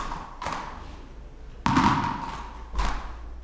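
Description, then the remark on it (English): Balls bounce together in a steady rhythm, landing as three sharp, heavy thuds about a second apart, each ringing briefly before fading, with no voices. “I like the fluidness and the rhythm of all the balls bouncing as one.”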